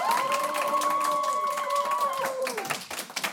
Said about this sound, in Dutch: En ik zou graag een groot applaus willen geven aan Jessica de Abreu en Sanne Pols.